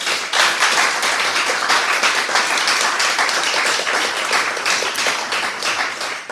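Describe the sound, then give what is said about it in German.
Steady audience applause welcoming a guest at a jazz stage on a warm Sunday, a dense crackle of many hands clapping at a constant loud level for several seconds, with no voices standing out. “bitte einen warmen Applaus an diesem warmen Tag.”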